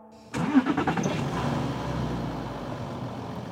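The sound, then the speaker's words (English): A motorhome engine cranks and roars to life after a brief quiet moment, sputtering at first, then settling into a loud, steady rumbling idle. “The motorhome's engines roared.”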